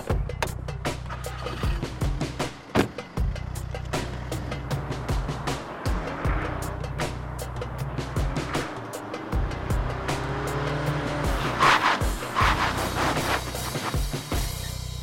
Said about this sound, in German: Bei einer Verfolgungsjagd muss Daniel auch bei nasser Fahrbahn das Auto im Griff haben und sicher abbremsen können.